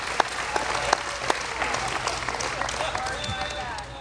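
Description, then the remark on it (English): An audience applauds in a steady, dense patter of many hands clapping at once, with a few louder individual claps and some voices mixed in underneath. “Give her a hand clap, somebody.”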